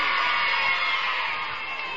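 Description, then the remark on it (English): A large concert audience yells and cheers as a band is introduced, a sustained, loud roar with scattered whoops and high shouts blending into a dense wall of noise that holds steady throughout. “And let's hear just how loud you can yell and how glad you're how glad you are that they're here.”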